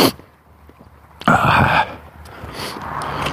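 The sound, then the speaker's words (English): A single sharp sneeze bursts out on a cold, overcast morning, loud and abrupt, then fades into a softer breathy rustle. No one speaks. “I sneezed.”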